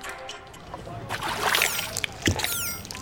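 Water sloshes and trickles steadily, with a few sharper splashes partway through and some faint high chirps drifting over the top.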